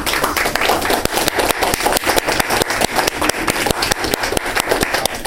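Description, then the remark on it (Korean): A crowd applauds steadily for a guest attending the event, many hands clapping in a dense, crackling wash with sharper individual claps standing out, sustained at an even, fairly loud level with no voices. “자, 여기에 참석하신 분인데 우리 박수로 쪽으로 부여 감사해요.”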